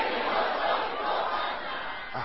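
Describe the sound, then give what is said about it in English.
A large crowd shouts the phrase "Destiny must come before partner" together in a loud, sustained roar of many voices, a dense wall of sound lasting about two seconds with no single voice standing out. “I want you to roar like thunder as you say it.”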